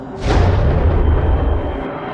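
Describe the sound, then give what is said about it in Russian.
A deep, steady jet engine roar surges in after a brief moment as the engine starts up when a button is pressed aboard a spacecraft, and holds loud and constant, heavy in rumbling low tones with a hissing rush above, and no voices. “Одновременно с этим он услышал мерный шум заработавшего реактивного двигателя.”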